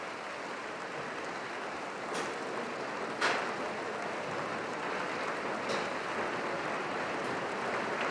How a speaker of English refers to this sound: He's returned now. You can hear him applaud as he came back. Ask the members of the orchestra to share the applause with him. And again, leaves the stage.